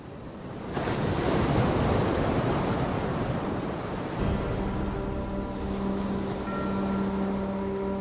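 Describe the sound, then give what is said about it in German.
Loud ocean surf rushes and splashes continuously, a dense wash of breaking water; about halfway through a steady low droning hum joins beneath the waves. “Es schwappt und plätschert und braust und blubbert und strudelt und fließt und plätschert. Jetzt in eure Ohren.”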